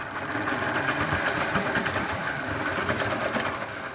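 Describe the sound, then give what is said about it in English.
A water taxi's boat motor on a river in Jakarta runs steadily after restarting, once a worker has pulled garbage from its blades: a loud, continuous rattling drone with a dense buzzy texture and no pauses or voices. “It takes a few tries, but the motor finally catches again.”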